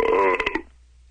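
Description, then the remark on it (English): A short stomach sound like a burp: a croaky, tonal belch-like noise lasting about a third of a second, trailing off into a few sharp clicking bursts before silence. “A burp? A burp? That was just my stomach.”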